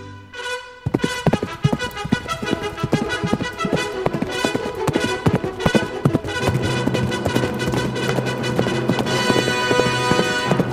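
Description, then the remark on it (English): Galloping hoofbeats of Silver, the Lone Ranger's horse, pound in a fast, steady rhythm beneath loud, energetic orchestral music that plays throughout, with no voices. “A fiery horse with the speed of light, a cloud of dust and a hearty hi-yo Silver, the Lone Ranger.”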